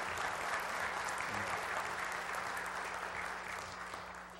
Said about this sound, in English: Let's give the Lord a round of applause again this morning.